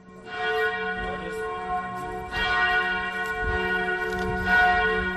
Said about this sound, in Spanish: Este es un sitio en el que, junto al cenáculo, está también lo que la tradición judía moderna dice que es la tumba de David. Hace muy poquito, hemos escuchado las campanas que son el sonido con el que los cristianos llaman a la oración.